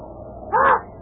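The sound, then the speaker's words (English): A single harsh raven caw rings out loud, lasting about a quarter second, over a low, steady rumble of wind. “And that raven.”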